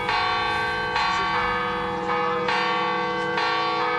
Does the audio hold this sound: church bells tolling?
yes